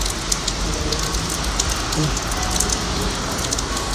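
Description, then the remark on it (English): Steady rain in Italy patters down in a continuous dense hiss, with scattered sharper drops tapping surfaces throughout. A faint low rumble runs underneath. “Still, I don't mind it's raining because I'm in Italy and it's nearly my birthday.”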